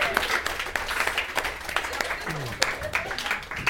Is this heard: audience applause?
yes